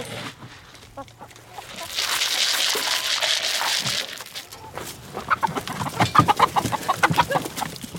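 Chickens cluck in a busy, overlapping chorus, with a broad hiss of farmyard noise early on giving way to sharp, repeated clucks up close in the second half.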